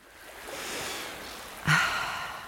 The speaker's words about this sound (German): Das Wasserrauschen hören und gute, salzige Luft einatmen, das ist reines Urlaubsgefühl in Bestlage. Stopp! Wo kommt denn das Meeresrauschen her? Das hier ist kein Werbespot für die Küstenregion, wir sind im Münsterland.